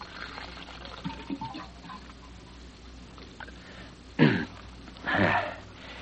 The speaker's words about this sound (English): Hang up your hat and go over to the water cooler for a drink.